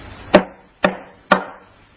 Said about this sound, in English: And as he said that, there was a knock on the door.